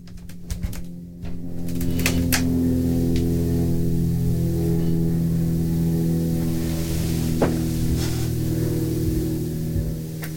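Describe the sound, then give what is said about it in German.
A distant helicopter drones steadily overhead, a low, humming engine tone with layered harmonics that holds for about ten seconds, broken only by a few brief clicks and taps. “Ich glaube, ich höre Hand einen Hubschrauber.”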